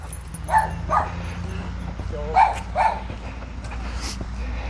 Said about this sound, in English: Well, a little chihuahua coming at me here. Good morning. Big excitement.